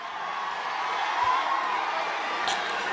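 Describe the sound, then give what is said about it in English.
A large crowd booing in a steady, continuous roar of mixed voices that holds at an even loudness for the whole stretch, with no single voice standing out. “You know, I heard some people booing.”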